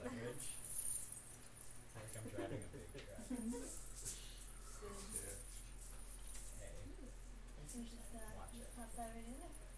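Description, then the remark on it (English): Light metallic tags on a dog's collar, including a shrinky dink badge, jangle and clink repeatedly, a bright tinkling that comes and goes over several seconds while people talk faintly in the background. “And her jangling collar is in a lot of my recordings, almost all of them, and that there is now a shrinky dink.”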